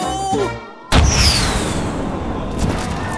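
A prize cannon fires with one sudden, loud boom. A long rumbling, hissing tail and a faint falling whistle follow, after a moment of brief voices and tones.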